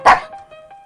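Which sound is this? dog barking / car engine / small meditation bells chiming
dog barking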